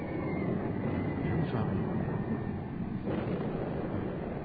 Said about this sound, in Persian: جوانم هواپیما بود. اینقدر نزدیک؟ نزدیک نبود که. نزدیک بود آقا، دوباره اومد.